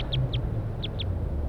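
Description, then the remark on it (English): Wild birds calling from the treetops: four short, high-pitched chirps arriving in two quick pairs over a steady low rumble, with no voices. “So recording, we got wild birds calling from the treetops.”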